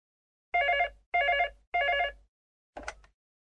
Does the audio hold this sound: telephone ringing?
yes